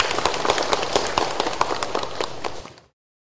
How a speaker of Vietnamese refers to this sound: Thì để trước hết để tỏ lòng quý kính cũng nhượng mồ sư cô, toàn thể đạo tràng chúng ta dâng một tràng vỗ tay để cùng nhau.